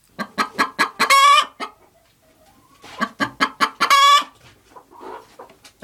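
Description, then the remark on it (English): Free-range hens, including Flora, cluck in two bursts of rapid, rising clucks, each ending in a loud drawn-out squawk, followed by a few softer clucks. “And finally, the last bird.”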